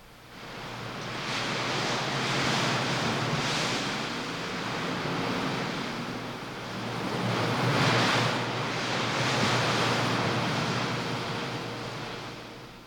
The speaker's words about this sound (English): You know, there's an updraft all the time coming up out of the heat down there at the bottom, and that makes for a constant wind that whips at the scrubby pine trees on the canyon edge. Just listen.